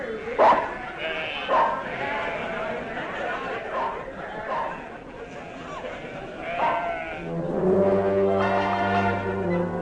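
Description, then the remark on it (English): Voices talk for the first part, then a sheep bleats in a long, wavering, nasal call near the end, clear. “Count sheep? What sheep? How can I count sheep?”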